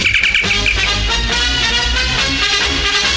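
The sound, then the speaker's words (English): The communicator signal tone of WJBK radio in Detroit, the cue to call in for the station's Moon Test contest: a loud burst of high, warbling electronic chirps over a dense, buzzing full-band wash, sustained steadily for about three seconds with no talking. “Be ready to call when you hear the WJBK communicator.”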